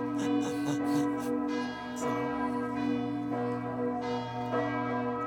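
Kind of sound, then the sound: signal or alarm, church bells ringing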